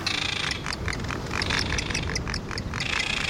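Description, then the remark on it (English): A dense, steady chorus of strident seabird calls at Palmyra Atoll, 1,000 miles south of Hawaii in the South Pacific, many harsh, high cries overlapping continuously at a loud, even level, with no one speaking. “Strident calls of seabirds fill the salty air at Palmyra Atoll, 1,000 miles south of Hawaii in the South Pacific.”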